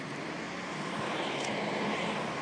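A rubbish collection truck drives past in a quiet city between Christmas and New Year, a steady, broad engine and road roar that swells slightly over a couple of seconds, with no voices.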